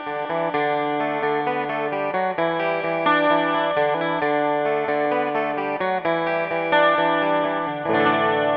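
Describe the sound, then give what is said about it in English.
A bright, jangly Rickenbacker 12-string guitar riff plays alone, ringing chiming picked notes in a steady, flowing pattern with a shimmering, chorus-like sheen and no voices. “He bought his own Rickenbacker 12-string”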